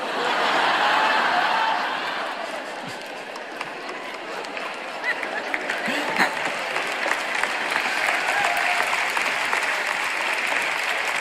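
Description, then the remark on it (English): A crowd applauds steadily throughout, a dense wash of many hands clapping that is loudest at the start, then settles to a sustained moderate level with some sharper individual claps. “I guess there's not much to clap about, is there?”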